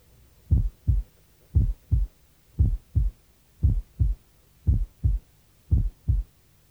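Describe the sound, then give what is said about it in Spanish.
A steady heartbeat heard through a stethoscope diaphragm at the left lateral sternal border: paired low thumps, lub-dub, repeating about six times at an even resting pace, with a faint hum between beats and no talking. “Con el diafragma, oye.”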